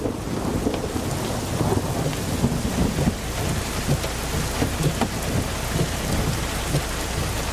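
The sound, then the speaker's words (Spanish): Heavy rain pours down in a steady, dense hiss, with a deep continuous rumble of thunder rolling underneath. No voices are heard. “Un relámpago ilumina una placa que reza.”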